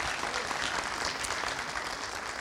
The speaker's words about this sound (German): Gerne nochmal Applaus.